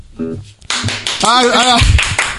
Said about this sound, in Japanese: ありがとうございます。まさか僕がこんなライブのステージでね、この拍手をもらえるとは、思ってなかったんで。